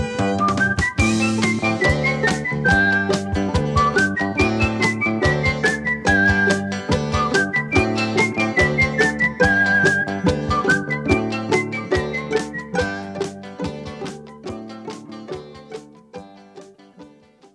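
A person whistles a cheerful, bouncy melody over a steady rhythmic backing of plucked and percussive accompaniment, the tune clear and prominent before the music gradually fades toward the end.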